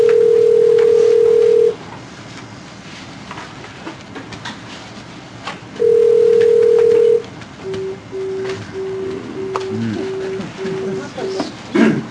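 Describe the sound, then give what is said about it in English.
A steady telephone dial tone sounds twice, then a quick series of short beeping tones as a number in Canada is dialed, with 9-1 tried before the number, with faint background noise throughout. “Tried 9-1, 9-1 and then the number.”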